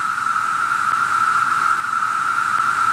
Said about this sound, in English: By the way, here's what a cicada sounds like, in case you're interested.